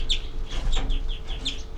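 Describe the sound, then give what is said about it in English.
A bird gives a rapid series of short, sharp, high-pitched alarm notes, about half a dozen in under two seconds, over a low rumbling background. “327, alarm by 3-3.”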